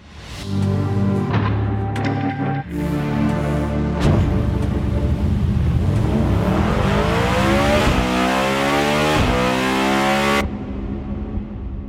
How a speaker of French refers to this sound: Puis je veux vraiment spécifier que c'est un V16 et non un W16. Alors, carrément un nouveau moteur. Je vous laisse avec un extrait du son du moteur.